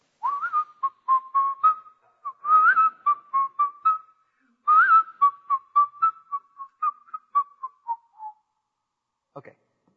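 Someone whistles a cheerful tune: quick, clipped notes in bouncy phrases, a brief pause midway, then the melody resumes and trails off, followed by a small knock.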